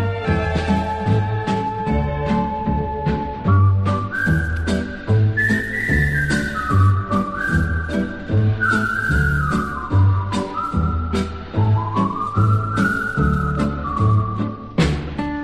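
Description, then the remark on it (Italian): A clear, lilting whistled melody rises and falls over a steady rhythmic backing of bass and percussion, carefree and upbeat, with no voices. “Me ne vado a spasso felice così, senza metà, tutti i miei pensieri fuggono leggeri nell'azzurro ciel fischiettando.”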